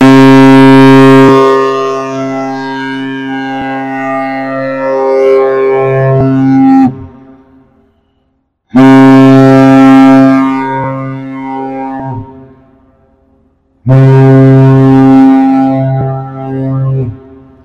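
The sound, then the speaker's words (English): A large ship, its bridge about 10 stories high, sounds its horn as a passing signal under international rules of the sea: three loud, deep, steady blasts, one long drawn-out blast followed by two shorter ones, with brief silent gaps between them and no voices. “In keeping with international rules of the sea, the ship was required to sound its horn for a passing agreement.”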